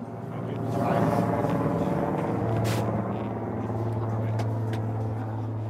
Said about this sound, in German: Ein Hubschrauber fliegt über den Ort. Neben den Schneemobilen das wohl wichtigste Fortbewegungsmittel.